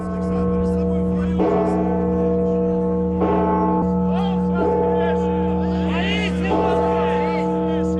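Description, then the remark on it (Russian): A huge, deep church bell, the Tsar Bell, is struck about four times at uneven intervals, its heavy resonant hum ringing on continuously between strikes, with a faint murmur of people in the background. Metropolitan Kirill, with officials, clergy and laypeople, made the first strike on 28 April, Easter Sunday. “Первый удар в царь-колокол митрополит Кирилл вместе с представителями власти и общественности, священнослужителями и мирянами совершил 28 апреля, в день Светлого Христового Воскресения.”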